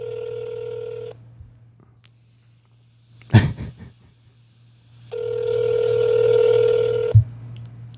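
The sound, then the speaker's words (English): A phone call to a mother rings out unanswered with a buzzy ringback tone, one ring cut short at the start and a full two-second ring later, separated by silence and a brief clatter, over a steady low hum. “Mama ain't gonna answer the phone, is she? Doesn't sound like it.”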